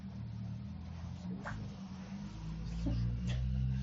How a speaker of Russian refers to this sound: Кого-то перистальтик включился. Бульк.